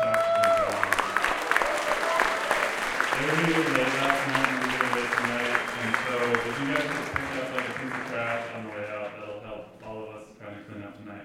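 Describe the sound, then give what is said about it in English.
A festival audience at Cuban Awesome Fest applauds the organizers and sound crew. The clapping is a steady, dense patter throughout, with cheering voices and chatter mixed in, before the applause begins to thin toward the end. “So could you guys give them a big round of applause?”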